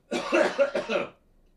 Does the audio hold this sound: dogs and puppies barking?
no